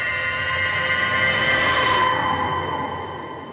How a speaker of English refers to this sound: It's 5 a.m. As I reach the sidewalk, a shrill whistle sounds from the direction of Standpipe Hill.